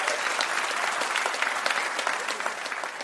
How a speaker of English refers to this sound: Please, everybody, give a huge round of applause for our mystery guest, Amy Webb.